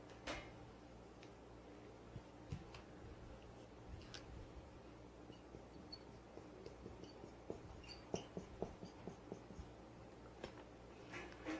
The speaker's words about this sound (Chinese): 还是写一写，要不然你们做笔记又乱写。